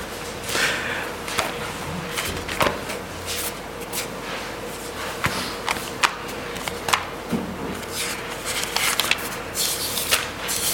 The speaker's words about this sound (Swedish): Och jag bläddrar i en bibel som jag inte är van att bläddra i.